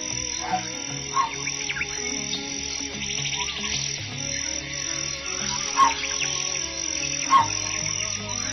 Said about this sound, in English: I call this one, I Saw It in the Jungle, because the sound of that bird is done with a saw.